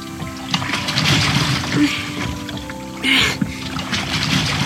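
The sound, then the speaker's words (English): Someone clambers into a small goose pedal boat: water sloshes and laps against the hull, with hollow knocks and a brief splashy surge partway through. “So, let's get in the pedal boat. Watch your step there.”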